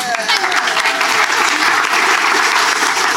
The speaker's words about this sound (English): Round of applause.